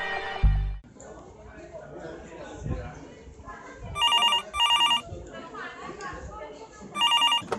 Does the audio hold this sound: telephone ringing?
yes